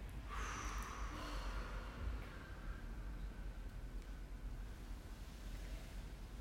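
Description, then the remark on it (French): A slow, deep breath drawn in through the nose, a soft airy rush that swells early and then trails off into quiet hiss, with no talking. “Nous inspirons.”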